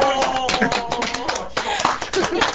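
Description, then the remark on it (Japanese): Quick, crisp hand claps applauding a haiku patter along while people keep talking over them, the clapping mixed in at a steady, moderate volume through the short stretch. “これ拍手で。”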